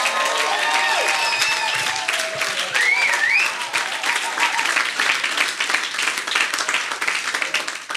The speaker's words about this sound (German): Das ist der absolute Hammer, und deswegen gebt mal eurem Pastor mal einen fetten Applaus.